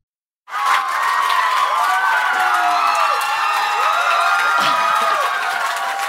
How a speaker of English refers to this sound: Let's just come back to this applause.